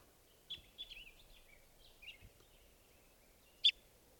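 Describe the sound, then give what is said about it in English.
Several high, thin bird calls and chirps, recorded from bird 518 during a test at 12:30, some with quick warbling slides, scattered over a quiet background, ending with one sharp louder call near the end. No voices. “Going now at 12:30, testing some of the birds here.”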